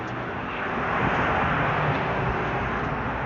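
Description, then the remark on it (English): An airplane passes overhead with a steady, broad roar that swells slightly in the middle and holds at an even loudness throughout, with no voices. “Airplane.”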